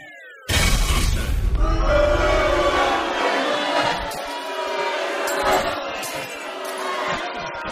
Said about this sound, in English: He's booing himself. Booing himself. It's great.